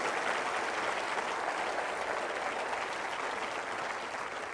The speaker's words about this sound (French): Applaudissez les cœurs conquérants du groupe ….